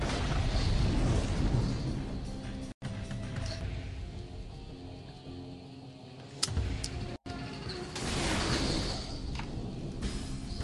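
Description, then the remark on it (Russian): The Titanic explodes with a loud, sustained roaring rumble, broken by a sharp crack partway through, then the heavy churning blast noise swells again. No one speaks. “Титаник взрывается.”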